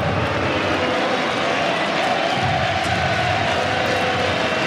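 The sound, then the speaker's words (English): A tennis crowd, on its feet during a match, cheers in a loud, continuous roar that holds steady for the whole few seconds, a dense wash of many voices with no clear individual claps and no one speaking. “Listen to the crowd now.”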